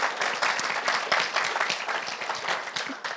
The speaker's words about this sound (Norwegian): Det var hyggelig. Veldig bra, en applaus til broderen.